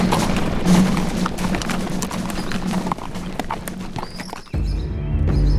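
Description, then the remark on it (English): A column of cavalry horses advances on its commander's signal, dense overlapping hoofbeats clopping steadily and loudly, with a horse whinnying toward the end as the rumble continues. “Danvers took up his reins, raised his arms, and signaled for the column to advance.”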